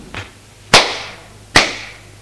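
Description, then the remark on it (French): A father slaps his son across the face: a faint smack followed by two loud, sharp slaps, spaced about a second apart, each with a quick ringing decay and no voices. “Son père le gifle.”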